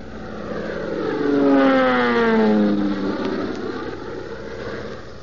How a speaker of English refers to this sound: Tailspin Tommy and Skeeter diving their crippled plane down through the billowing smoke